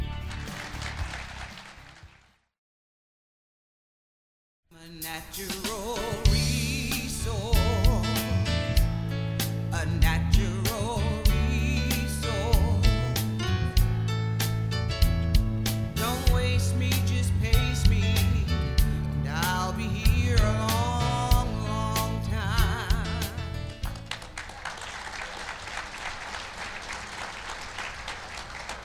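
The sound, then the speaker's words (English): An audience at the 75th annual convention of the Ohio Federation of Soil and Water Conservation Districts, recorded for Town Hall Ohio, applauds briefly, then after a short silence a lively music stretch plays, and the audience breaks into steady clapping again near the end, moderately loud. “Those are the people that I paid to applaud.”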